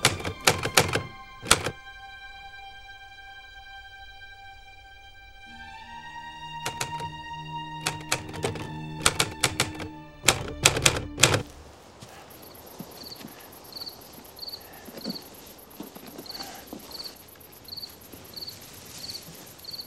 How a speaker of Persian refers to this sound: MG42؟ آره. دارم به چی شلیک میکنن؟ چی اونجاست؟